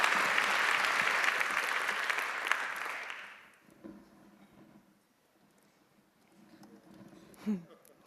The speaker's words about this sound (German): Applaus.